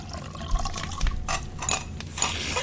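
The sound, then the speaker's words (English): Tea pours into cups for two people in a steady trickle that swells into a few gurgling, splashy surges, with a couple of soft knocks early on. It is moderately loud and plays alone, with no voices. “Let me pour you both some tea.”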